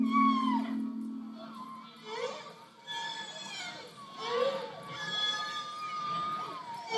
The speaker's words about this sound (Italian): ad essi sarebbe stato aggiunto il canto delle balene